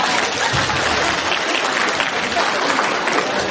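An audience applauds steadily for several seconds, a dense, even wash of many hands clapping at a constant, fairly loud level with no pauses.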